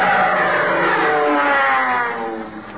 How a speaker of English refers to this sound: That's one of them new military planes. One of the HICTIGs. The what? Yeah. HICTIG. Yeah, here it comes and there it goes.